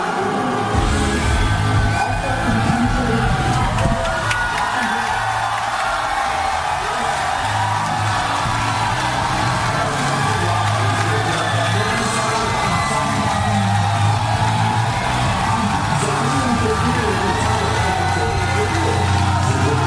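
A large crowd of about 5,000 people at a live Dig Nation show shouts, cheers and chants "Dig Nation" continuously, a dense, loud roar of many voices with occasional whoops rising above it, sustained without a break throughout.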